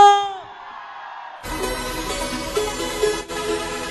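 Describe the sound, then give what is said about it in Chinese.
A brief tonal sound fades into a short silence, then a loud crowd at a DJ event suddenly erupts in screaming and cheering, a dense, sustained roar that holds steady until the end. “来，今天晚上你们最大的尖叫声有吗？”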